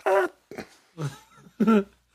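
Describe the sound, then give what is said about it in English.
A voice imitates a gigantic fart-like pop heard on a plane running out of runway, producing four short, buzzy vocal bursts in quick succession with brief gaps between them. “I'm sitting on the left-hand side of the plane, hear a gigantic pop, and it was like a big... Yeah, like a big fart, like that.”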